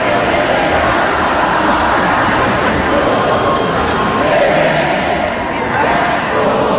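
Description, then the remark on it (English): A large concert crowd sings along loudly with the band, who carry on with nothing but their voices, a dense wall of many voices that stays steady and strong without a break, with no clear individual speech standing out. “rather than end the night early, he and the band kept it going with nothing but their voices. And the roar of the crowd,”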